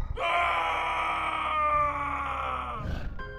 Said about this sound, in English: As the thing stepped into the moonlight, Dirk screamed from his soul.